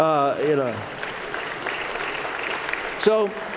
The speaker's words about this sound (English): And I'm also pleased to say that this book and the speaking engagements that I'm going to do, we will raise, I'm hoping, well over $2 million as we go forward. And by the way, that gets some applause most places where I speak, okay?